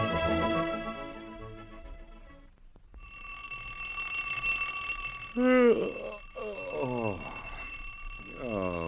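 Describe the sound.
A steady, shrill alarm clock ringing holds a continuous tone for several seconds, with sliding, voice-like warbles rising over it. It opens with a brief, buzzy sustained chord.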